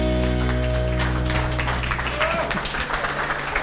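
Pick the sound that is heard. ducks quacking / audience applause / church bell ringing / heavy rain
audience applause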